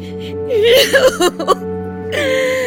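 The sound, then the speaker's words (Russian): A woman weeps in wavering, sobbing cries for her son, who was called up to the front in wartime and went missing, her voice rising and breaking in short gasping bursts over a steady low hum, fairly loud. Set in the Siberian city of Tobolsk. “Бедная женщина. Как она плачет.”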